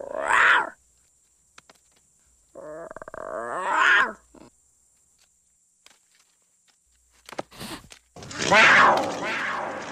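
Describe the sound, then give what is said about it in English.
The young lion cub Simba lets out a few small, scratchy roars in short bursts, with brief pauses and light shuffling between them, ending in a louder, rougher growling roar. “Little roar.”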